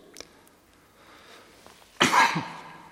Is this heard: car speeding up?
no